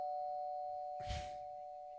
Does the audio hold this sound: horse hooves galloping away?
no